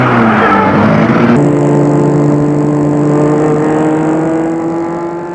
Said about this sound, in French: C'est ce qu'elle fait, et elle met la voiture en route.